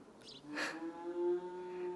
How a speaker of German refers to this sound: Ich glaube, die Kühe erkennen mich schon. Sie haben etwas gemurmelt, was klang wie: Na, hast du dich endlich gewaschen, du Sacknase?